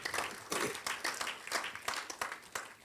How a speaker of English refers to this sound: Clap for the Lord Jesus.